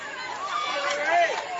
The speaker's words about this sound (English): And two very different crowds here from what we saw in game one. Game one, it was clearly Columbus, very loud and very energetic. And now it's Washington County doing all the yelling and screaming and chanting.